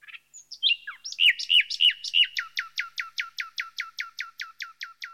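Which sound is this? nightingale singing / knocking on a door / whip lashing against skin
nightingale singing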